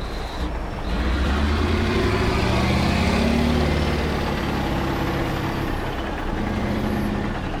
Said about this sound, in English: At the other end of the Hunter Valley lies Bulga Coal Mine. Here, giant machines rip at the black ground, while trucks three stories high cart away tons of coal. The scene is repeated 24 hours a day, 7 days a week at this open pit mine.